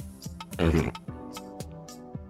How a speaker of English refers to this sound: Burping into a sleeping bag.